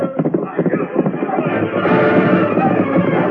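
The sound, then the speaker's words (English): Horses gallop with a fast, drumming rush of hoofbeats that soon blurs into a loud, dense wash of noise that carries on steadily to the end. Two riders, a masked man and an Indian, are riding; one horse is called Silver. “Barton, there's two riders. The masked man and the Indian. They're swinging loose.”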